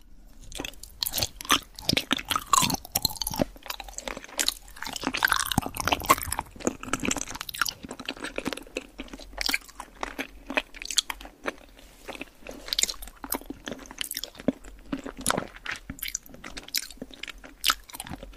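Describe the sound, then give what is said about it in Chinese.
Steady, wet chewing and crunching of spicy hotpot food, with quick irregular bites and squishy mouth sounds repeating throughout, over a faint low hum and no speech. “来，我们继续吃火锅。”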